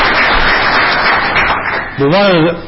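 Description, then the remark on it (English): An audience claps in a dense, steady wash of applause for about two seconds, honouring a man for getting young people into agriculture, before a man's voice starts speaking over the fading clapping. “and I compliment him on trying to get young people into agriculture, and I really think we need to give him a round of applause for that one fact, because we're in a declining mode,”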